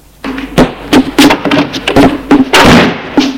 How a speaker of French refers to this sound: Il sort de la pièce en claquant la porte.